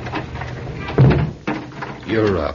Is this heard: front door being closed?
yes